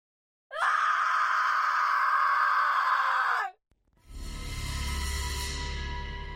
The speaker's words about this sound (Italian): La sveglia sul comodino segna le 5 del mattino, ma è il grido proveniente dal piano di sopra a farlo scattare fuori dal letto. Sale con rapidità le scale, riconosce che a gridare è la moglie.